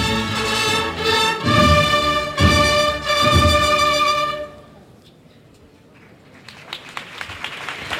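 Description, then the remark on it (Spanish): A loud, sustained band chord with pulsing accents cuts off midway, followed by a hushed crowd murmur that builds into scattered then growing applause from a large gathering in the plaza as the Cristo de la Lanzada enters the church of San Martín. “Y ovación aquí en la plaza.”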